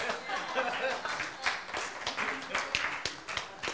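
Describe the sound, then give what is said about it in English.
An audience at a church service on the Feast of Corpus Christi applauds a joke with dense, steady clapping that rises and falls over a few seconds, sharp individual claps standing out here and there within the broad wash of sound. “No, the correct applause for that is. Yeah, there.”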